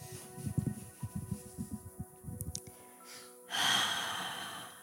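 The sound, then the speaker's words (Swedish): Deep breaths drawn in through the nose in a breathing exercise, breathing out so the belly becomes big and wide: a stretch of soft, rhythmic nasal sniffing and airy puffs, then one long, steady rush of breath near the end. No one speaks. “Så igen, bara ta några djupa andetag in genom näsan. Och andas ut så att magen får bli stor och bred.”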